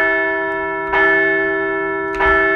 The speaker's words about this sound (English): But still, we're ringing the bell for the Phils. They did secure that all-important series win this weekend in D.C.